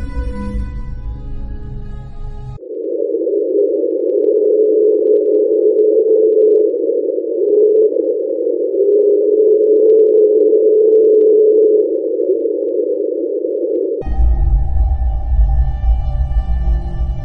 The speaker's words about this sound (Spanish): y se llama Train, un sonido no identificado registrado el 5 de marzo de 1997. De acuerdo con la NOAA, el origen del sonido es más probable que fuera un iceberg muy grande en contacto con el fondo marino en el Mar de Ross, cerca del Cabo Adare.